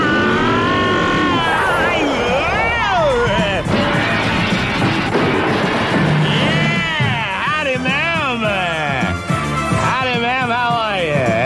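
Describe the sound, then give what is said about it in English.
A voice imitates a squad car engine revving and accelerating, with repeated rising and falling whines that climb in pitch, loud for several seconds without a break. “You get in that squad car and you rev that baby up.”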